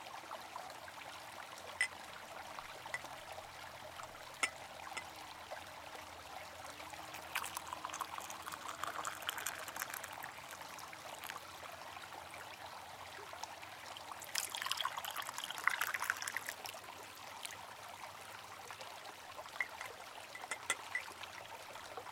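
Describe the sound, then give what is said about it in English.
Hot tea pours into a cup in two short, splashy streams, a gentle trickling rush rising and fading each time, against otherwise quiet surroundings. “Let me pour you some more hot tea before they begin.”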